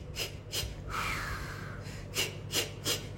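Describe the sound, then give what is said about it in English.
A voice imitates rapid, panicked hyperventilating from not breathing properly: a quick series of sharp, breathy gasps in and out, fairly loud, with a brief strained pause in the middle and no talking. “because I missed the most important class, which is the breathing exercises, I was there hyperventilating.”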